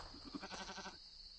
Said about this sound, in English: He thought he heard a bleat. A sarcastic bleat? From the poet's goat.